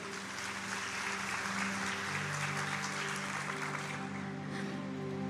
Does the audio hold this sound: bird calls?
no